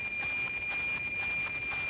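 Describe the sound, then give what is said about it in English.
A NOAA weather satellite signal received over radio: a steady high whistling tone inside loud hissing static, pulsing with a regular, rapid tick-tock rhythm throughout. No one speaks. “I don't know if you can hear me when I'm talking over it, but when you're really getting a good image, you're going to be hearing this tick-tock noise, a very distinctive tick-tock noise.”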